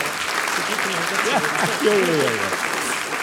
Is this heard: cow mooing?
no